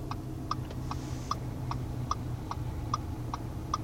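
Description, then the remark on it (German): A car's turn signal ticks steadily, its crisp clicks alternating in a tick-tock rhythm about twice a second, over a low, constant engine or cabin hum. “Das Ticken eines Blinkers.”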